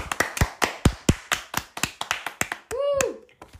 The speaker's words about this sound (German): Apropos alle Wiedergaben. Klatschen mit!